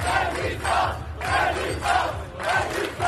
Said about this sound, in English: These demonstrators in Bordeaux shouted, "Resistance, resistance."